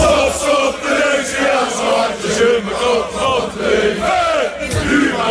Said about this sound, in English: Boze Feyenoord-fans in Rotterdam. Zo'n 1000 supporters demonstreerden met een biertje op het Stadhuisplein tegen de politiestaking.